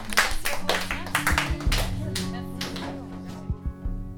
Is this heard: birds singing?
no